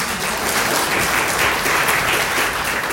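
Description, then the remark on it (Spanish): Steady, dense applause from an audience for a project group, many hands clapping at once in a continuous crackling wash that holds at an even loudness throughout, with no voices standing out. “Un aplauso al grupo.”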